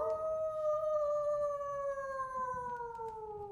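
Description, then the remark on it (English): A single long wolf howl in Alaska, steady and mournful, slowly sliding downward in pitch over a few seconds, fairly clear against a faint low rumble, with no voices. “Was that a wolf? This is Alaska, Doc. Wolves are everywhere.”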